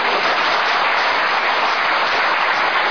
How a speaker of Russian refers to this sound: Ну так вот, когда такое вот, такая обманчивость, и вообще аплодисменты даже ваши нельзя считать за одобрение. Можно считать их только успехом.